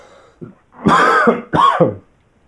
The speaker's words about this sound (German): Aber erst muss ich noch mal husten und mich räuspern. Es tut mir leid, gleich habt ihr es geschafft.